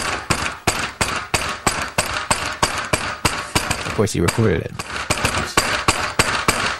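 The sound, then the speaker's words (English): Loud, steady pounding on a door by New York City police (NYPD) at a home in upstate New York, roughly three heavy blows per second, continuing without pause for several seconds while a voice briefly speaks over the banging partway through. “living with his dad, 350 miles away in upstate New York, where he says a dozen times, city police have shown up and pounded on his door, yelling, NYPD, we know you're in there.”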